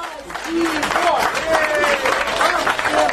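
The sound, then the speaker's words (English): Supporters of a freelance reporter cheer and applaud continuously in a court in Russia after she is found guilty of justifying terrorism: dense clapping mixed with overlapping raised voices and shouts, loud, filling the courtroom throughout. “it sounds like they're all cheering for a guilty sentence.”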